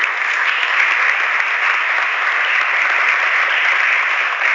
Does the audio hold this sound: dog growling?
no